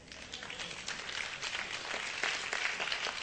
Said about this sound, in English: Well, you know, that doesn't necessarily go over real well, but I do appreciate the few that applauded that.